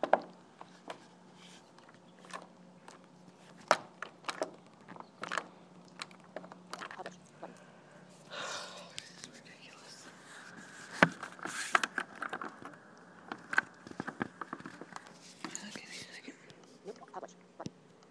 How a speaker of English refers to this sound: And I was trying to get a door shut and the stupid lock wasn't cooperating.